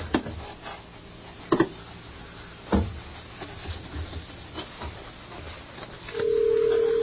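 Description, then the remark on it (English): A few sharp clicks and knocks of a telephone handset being handled, followed by a steady, low, continuous dial tone that sounds for the last second, with no voices, as a phone call to Alaska is being placed. “We make all sorts of phone calls on this program.”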